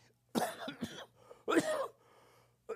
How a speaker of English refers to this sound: Sorry about my coughing. I'm still getting over that cold from a few weeks ago or whatever that was.